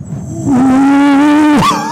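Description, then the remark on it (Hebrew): A person imitates jackals howling: a long, steady wail holding one pitch for about a second, then breaking and sliding upward into a higher, rising howl. It is loud and sustained, with no talk over it. “פתאום אתה, אחרי שכולך רועד מקור ומפחד, הגעת לשטח, אתה יושב, פתאום אתה שומע את התנים לידך עושים לך.”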